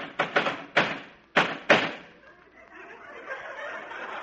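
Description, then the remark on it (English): A bat pounds on home plate five times in quick, uneven succession as Casey, the batter, strikes the plate with violence, sharp hard thuds that give way to a low murmuring wash of background noise. “He pounds with cruel violence his bat upon the plate.”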